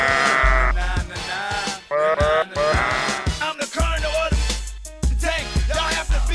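Several wavering, nasal sheep bleats follow one another in quick succession, loud, over a steady low rumble, with some calls overlapping near the end.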